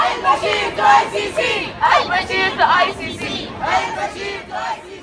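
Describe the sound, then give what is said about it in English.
A crowd of hundreds at a Saturday solidarity march for Sudan at San Francisco's Civic Center Plaza chants and shouts together in loud, rhythmic bursts, many voices overlapping in a dense, continuous roar of rising and falling calls. “Hundreds of people from up and down the West Coast gathered Saturday at San Francisco's Civic Center Plaza for a solidarity march for Sudan.”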